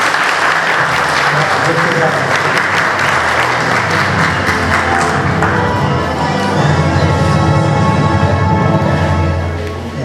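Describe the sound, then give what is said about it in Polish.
Loud, sustained audience applause fills the whole stretch, a dense crackle of many hands clapping, with a steady crowd murmur and some voices mixed in toward the end; applause for five people after congratulations in a poetry and prose category. “Brawa za to pięciu.”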